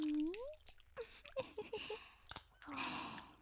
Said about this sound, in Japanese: どうですか、ローションで体中ベトベトになるのは。ぐちぐちの泡とローションを体に塗られてるのに不快感とかないでしょ。